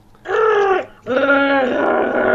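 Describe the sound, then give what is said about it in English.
A person's voice imitates a Wookiee's roar in two loud, drawn-out bursts, the first shorter with a brief pause before a longer, wavering second howl. “I'm sad that I can do a better Wookiee noise than you can.”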